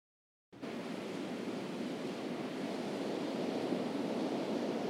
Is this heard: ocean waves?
yes